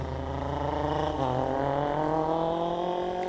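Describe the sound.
Someone imitates a motorcycle engine with their mouth: a steady, buzzing rev that climbs in pitch partway through and holds, loud, with no other talking.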